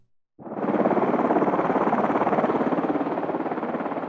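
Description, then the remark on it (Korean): A helicopter carrying President Chun Doo-hwan's party from Sabuk to Jumunjin: its rotor thumps in loud after a brief silence, its rapid, steady chopping beat holding for several seconds over a broad engine roar. “사북방문을 마친 대통령 일행은 헬기를 타고 주문진으로 갔습니다.”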